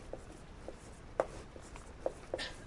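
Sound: writing on a board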